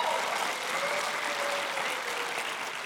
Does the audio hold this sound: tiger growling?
no